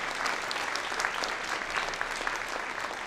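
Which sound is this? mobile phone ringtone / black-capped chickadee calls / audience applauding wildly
audience applauding wildly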